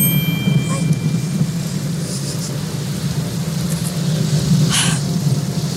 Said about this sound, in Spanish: Nubes. Relámpagos. Tormenta de noche sin luna.